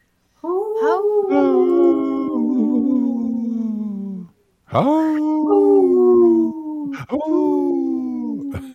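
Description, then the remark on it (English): A voice imitates a wolf howl: three drawn-out, loud wails that slowly slide downward in pitch, the first long and the next two shorter, with brief gaps between. “I was trying to go with the wolf”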